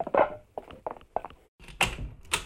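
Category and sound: household object, front door being opened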